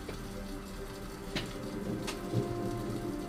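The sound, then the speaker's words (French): Steady rain patters down with a low, continuous rumble of approaching thunder underneath; a few brief sharper splashes stand out, and no one speaks. “Les cris et les gémissements se mélangent au bruit du tonnerre qui s'approche.”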